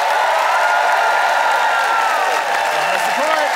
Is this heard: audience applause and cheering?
yes